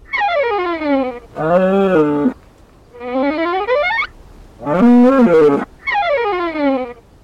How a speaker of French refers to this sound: Les vaches ne jouent pas de violon, mais elles beuglent.